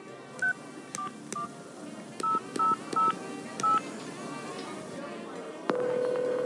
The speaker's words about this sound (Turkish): Sadece numarayı çevirip size vereceğim.